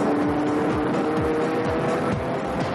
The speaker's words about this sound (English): He's quickly got the measure of that car. He's blistering through the chicane. Well, that is very, very convincingly race car-like.